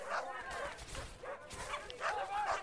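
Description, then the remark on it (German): Dogs bark in a village in a rapid, overlapping series of yelping barks, several sharp bursts packed into a couple of seconds at moderate volume, sounding like more than one dog. “Hunde?”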